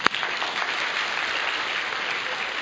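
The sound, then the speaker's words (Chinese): Members of the 生命和灵粮堂 church audience break into steady applause for themselves, a dense wash of many hands clapping at an even level throughout, with one sharp clap standing out at the very start and no voices. “你们为你们自己鼓掌一下吧。”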